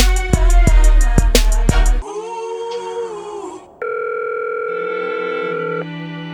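telephone ringing

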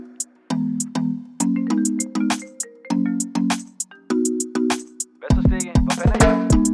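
phone ringing

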